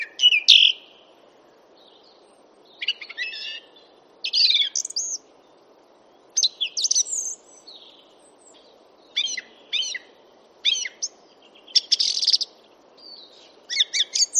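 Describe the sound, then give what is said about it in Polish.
A song thrush sings alone in short, bright phrases separated by brief pauses, each burst clear, over a faint steady background hiss. “Przed chwilą usłyszeliśmy drozda śpiewaka”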